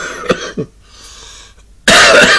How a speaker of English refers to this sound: You must excuse me with this cough and this cold I have again, as usual, with me. Do I ever seem to ever get rid of it? No. You get rid of it, then all of a sudden it comes back again.